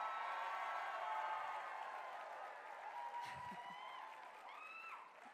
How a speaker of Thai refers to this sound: เมื่อก่อนไม่มีเสียงปรบมือแต่ตอนนี้เสียงปรบมือเต็มไปหมดเลยค่ะ